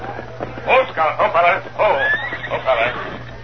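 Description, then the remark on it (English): A horse whinnies in a series of shaky, wavering high-pitched bursts lasting a few seconds as its rider reins it up outside a big saloon tent, heard over a faint steady low hum. “Tonto reined up his horse outside the big tent, dismounted, and began to look for an outlaw named Ed Sobel.”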